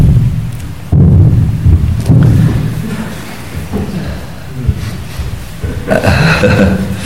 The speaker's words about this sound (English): There's thunder in the air.